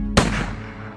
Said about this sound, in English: Fly away! Fly away! Gunshots! The geese warned.